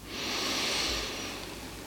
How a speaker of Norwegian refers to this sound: Och så gör vi det en sista gång. Pust in.